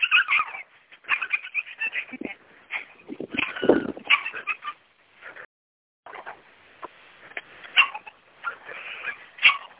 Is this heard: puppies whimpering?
yes